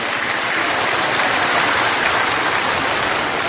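A crowd claps steadily in sustained, dense applause that holds at a constant loud level, a rain-like wash of many hands with no voices on top, applauding the merits of Buddhist donors at a Vu Lan vegetarian food festival.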